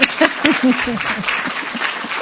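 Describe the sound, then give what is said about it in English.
An audience at a University of Virginia celebration of women marking the 40th anniversary of full co-education breaks into steady, dense clapping for a couple of seconds, with scattered voices and light laughter mixed into the applause. “All right, that deserves applause.”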